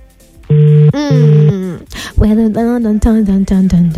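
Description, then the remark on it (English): A voice imitates a telephone ringing while calling a friend: two long, steady, buzzing hummed tones, then a quick series of short, warbling pulses at a low pitch, fairly loud throughout. “Oh yes, it's ringing as it should. It's ringing.”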